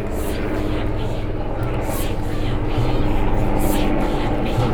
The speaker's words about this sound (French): Faites gaffe, il y a les hélicos qui arrivent. J'ai entendu.